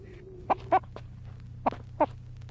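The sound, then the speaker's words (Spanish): A red hen, carried under a man's overcoat, clucks four times in short, clipped bursts at uneven intervals, moderately loud over a steady low hum, with no one talking. “Es una gallina colorada la que lleva a Esteban debajo del gabán.”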